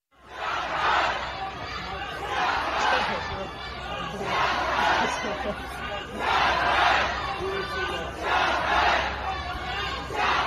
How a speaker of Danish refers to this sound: Ja, hvis du ikke lige kan kinesisk, så kan jeg oversætte. Xi Jinping træder tilbage, råber kinesiske demonstranter i de her dage.